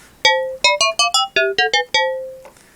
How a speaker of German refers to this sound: Das sind eben genau diese metallischen Sounds, typisch FM-Modulation.